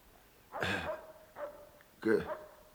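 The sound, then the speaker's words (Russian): A dog barks three times in fairly quick succession, the barks sharp and moderately loud, with a faint steady tone lingering between them. “Глянь в окошко, чего там пес брешет?”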